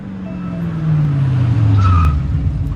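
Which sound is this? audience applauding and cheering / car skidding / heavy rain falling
car skidding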